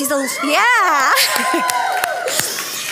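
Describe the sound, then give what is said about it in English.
An audience at Awakening church cheers loudly for a longtime member of its prayer team as she is introduced, with a rising whoop and overlapping high shouts and yells that hold steady for about three seconds before thinning slightly at the end. “She's a longtime family member at Awakening, as you can tell by that cheer.”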